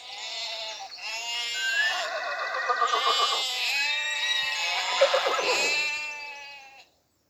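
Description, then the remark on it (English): A horse on a farm neighs loudly in one long, quavering whinny lasting several seconds, its pitch wavering up and down before it cuts off abruptly. No one speaks. “Ooh, I can see four horses.”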